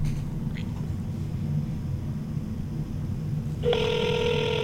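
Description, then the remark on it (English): A low, steady rumble fills most of the moment before an outgoing call's ringback tone kicks in near the end, a clear electronic ring that sounds once and stays bright. “while the phone's ringing, give us some thoughts, what you're thinking, what's going through your mind.”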